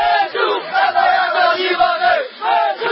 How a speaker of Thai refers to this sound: นั่นคือเสียงโห่ห้องสนับสนุนในขณะที่นั่งเหียกห้องให้มีการเปลี่ยนแปลงรัฐธรรมนูญที่กุมเผด็จการทหารเมื่อก่อนเป็นผู้ว่างออก